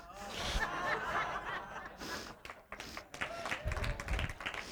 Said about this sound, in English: I hear a lot of women clapping and applauding, not a lot of the men.